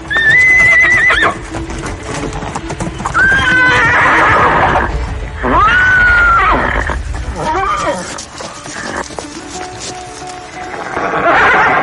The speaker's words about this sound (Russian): Копытами он яростно рыл землю. Конь ржал так громко и свирепо, что все вокруг разбежались.